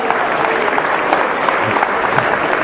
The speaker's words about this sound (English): And if everybody can be applauding with him also, that even makes it better.